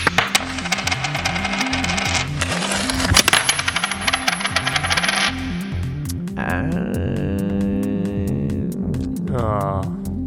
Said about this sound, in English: Okay, okay. Well, let's light up shoot number two, please. And whenever you're ready, release the coin. Release the coin. There we go.